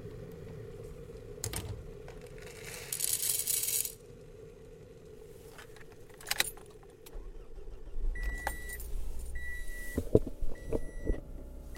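A car being driven north in darkness, its steady engine and road rumble filling the interior, with keys jingling and clattering now and then, followed by a few short electronic chimes near the end. No one speaks.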